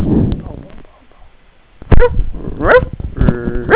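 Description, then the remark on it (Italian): A person imitates a dog barking with several short, loud woof-like yelps in an uneven rhythm, following a stretch of quieter talking and near silence. “E il cane fa?”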